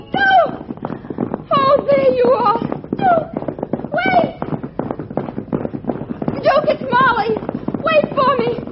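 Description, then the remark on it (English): A horse gallops away carrying a rider who urges it on, a rapid, steady clatter of hooves lasting throughout, loud, with voices and shrill cries sounding over the drumming hoofbeats. “Giddy up, you horse, you.”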